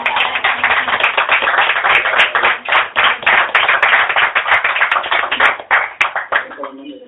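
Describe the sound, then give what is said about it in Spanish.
An audience at a live presentation of a new novel applauds steadily for several seconds, a dense patter of many hands clapping, then the clapping thins and fades as a voice begins to speak at the end. “Un aplauso.”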